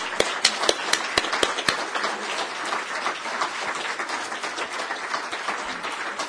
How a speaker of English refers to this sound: So, parents and my team, I would request the wonderful guests of ours to please give them a round of applause. Please stand up first, and I want you to please give them a round of applause, please. Parents and team.